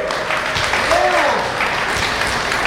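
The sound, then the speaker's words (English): Sustained applause from a crowd fills the space, a dense steady wash of clapping with a brief whistle-like tone rising and falling in the middle. “That's a lot of applause.”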